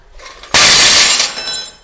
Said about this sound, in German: Die Tür zum Bunker explodiert mit einem lauten Knall.